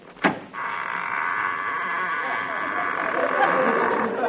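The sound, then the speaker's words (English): A car door on a car dealer's lot clicks open, then a long, steady, high-pitched squeak drags on for several seconds before stopping abruptly. “Hey, that door needs a little oil, doesn't it?”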